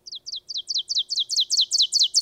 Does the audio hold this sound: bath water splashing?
no